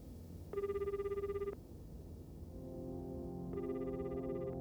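A telephone rings in two electronic bursts as a call to someone's father goes unanswered: a steady trilling tone, then a couple of seconds later another ring, over a low background hum with no one speaking.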